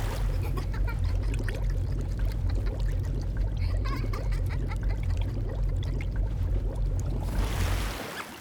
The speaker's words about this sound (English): You see, usually you're supposed to dunk your head in water and try to catch a floating apple, except... now, I'm going to dunk your head in and have you try to catch a breath of fresh air. Come on, the water's fine. Why don't you take a dip?